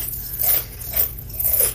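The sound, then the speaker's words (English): Someone eating chips crunches loudly, with three crunchy bursts spaced evenly about half a second apart and no talking. “that couldn't be any louder. You gotta get some dog food. What are you eating”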